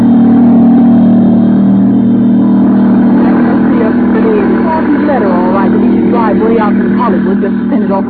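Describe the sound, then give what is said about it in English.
The 5:30 plane for New York takes off at the airport in Burbank with a loud, steady engine roar and a deep droning hum, while indistinct voices in a watching crowd rise and chatter over it in the second half. “As the 5:30 plane takes off for New York, in the crowd are two girls.”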